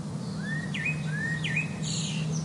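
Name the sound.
birds chirping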